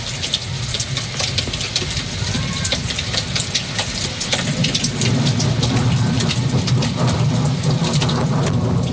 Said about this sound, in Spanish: Ahí se escucha parte de la precipitación. Esto es como que estamos esperando que llegue la tormenta eléctrica.